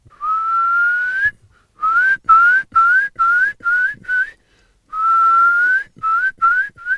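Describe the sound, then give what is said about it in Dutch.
A Eurasian curlew's bubbling call in spring in an area where curlews breed: a long, rising, clear whistle, then a quickening run of shorter upslurred whistles, given twice, loud with no voices. “Dus als je in het voorjaar in zo'n gebied bent waar wulpen broeden, hoor je...”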